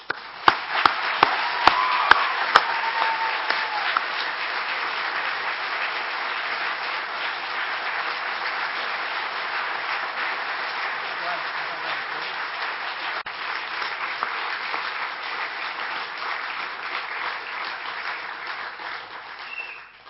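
A loud, sustained round of applause from a church audience, starting with a few sharp individual claps and swelling into a dense, steady roar of clapping that holds for about twenty seconds before tapering.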